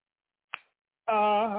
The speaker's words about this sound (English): Hey, listen to this right here. Listen to this right here. I'm going to snap my fingers with it, man, so you can understand this shit.